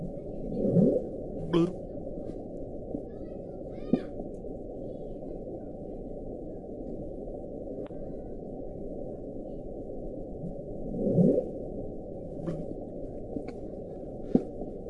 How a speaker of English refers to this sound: Sounds like bits of Golden Corral hitting the fucking water. Is all it sounds like to me. Well, that's the initial bloop. And let me get this other part here queued up so you can hear it.